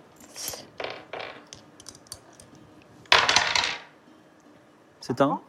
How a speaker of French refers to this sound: Donc lance les dés et fais un jet et tu enlèves 10 à ton donc tu as 80, tu dois faire moins de 70.